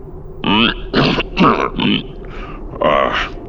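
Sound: throat clearing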